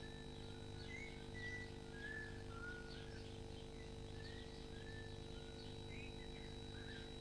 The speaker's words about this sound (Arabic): الطيور تصرخ حين تكون في خطر، لذا ندرك نحن الخطر أيضا.